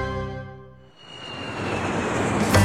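The engine of a special flight plane from Brnik airport to Lourdes hums with a steady tonal drone, dips briefly, then swells into a loud, rushing roar that keeps building, like a plane powering up for takeoff.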